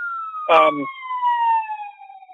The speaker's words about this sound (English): Another person that is booked, you're going to hear the police come by here in just a second. I guess a little traffic jam going on up here.